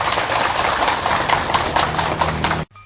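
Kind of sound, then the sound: crowd, audience applause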